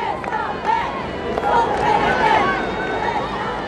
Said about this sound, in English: Though the weather had been cold and damp all day, cheering crowds lined the steep, winding streets through the town.